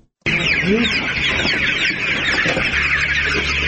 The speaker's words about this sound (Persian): چراغ برق در داخل سالن پرورش مرغ‌ها به هنگام داخل شدن اولین نگاه بیننده را به خود می‌کشاند. در زیر نور برق صدها مرغ سپید رنگ به چشم می‌خورد که در حرکتند. اینجا اولین فارم زنانه و تازگی در منطقه تتمدره ولایت پروان ساخته شده است.